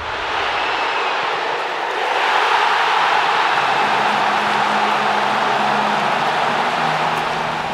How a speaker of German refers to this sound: Da hören wir den Jubel nach einem Goal von den FC St. Gallen Männer im gleichen Stadion im August dieses Jahr.